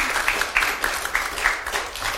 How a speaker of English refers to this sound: You can give him a little applause. He's kind of sleepy, so.